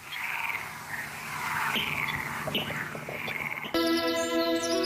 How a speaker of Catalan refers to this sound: I això és un rascló.